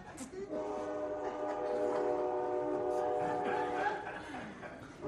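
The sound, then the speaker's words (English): A passing train blares its horn in one long, sustained chord for several seconds, loud and steady against a rumbling background, with a faint voice briefly audible near the end. “Some of those drivers, they love that horn.”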